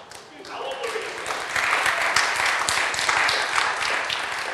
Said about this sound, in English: I have no idea why you're clapping, but that's all right.